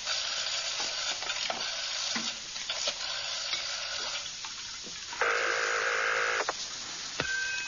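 A telephone being dialed: a run of sharp clicks over a steady background hiss, then a sustained buzzy tone for about a second, followed by a last faint click. No one speaks.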